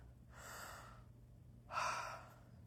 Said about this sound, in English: Sorry about the heavy breathing. I'm sure it's very annoying in the microphone.